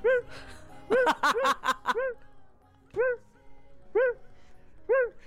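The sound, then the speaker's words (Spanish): Dogs bark in a flurry of quick yips near the start, then settle into single sharp barks spaced about a second apart, clear with no one talking. “Ladran cuando pasa un perro, cuando pasa un gato.”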